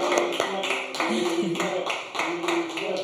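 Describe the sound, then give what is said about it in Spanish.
Applause during a livestream, given for the stream's most frequent donor. It is heard as a run of sharp, fairly loud claps at uneven intervals, layered over a steady, murmuring voice-like background tone. “Entonces, le mandamos otro aplauso a Cristian Hernández.”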